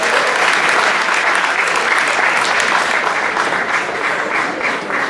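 A crowd claps steadily for several seconds, a dense, loud patter of many hands with no pauses, easing slightly toward the end, applauding a woman as she comes forward at a prize draw.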